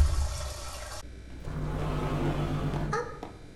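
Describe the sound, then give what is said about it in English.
Water rushes steadily into a tank, a loud continuous hiss and gurgle that holds for a few seconds before shifting briefly near the end, with no voices. “Yes, it will rise. It will rise. It will fill the tank.”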